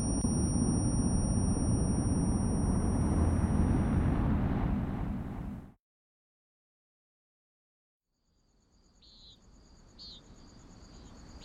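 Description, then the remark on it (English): Crickets chirp in the early morning in a steady, high-pitched trill over a loud rumbling wash, which cuts to silence. Then a softer, rhythmic pulsing chirp returns with a few brief, sharper calls. “Birds were chirping, crickets were singing.”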